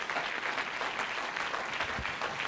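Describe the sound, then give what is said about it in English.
Soft, polite golf-style applause from a group clapping their hands to bless God's name, a steady patter of hand claps without any loud bursts or cheering, continuing evenly for a few seconds with no one talking. “That's kind of like a golf game clap there.”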